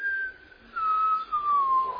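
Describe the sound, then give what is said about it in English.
A person whistles a single long, steadily falling tone, imitating the whistle of a falling buzz bomb. The pitch slides gradually downward for about two seconds, fairly loud and with no talking. “And back then, you remember they had, y'all wouldn't remember, but you've heard about the buzz bombs, and they'd stop the motor and the flight, and they'd just wait, and they'd hear this.”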